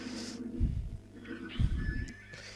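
A flying horse whinnies with a thin, wavering high cry, heard somewhat faintly amid two deep, rumbling whooshes in the background. No one speaks.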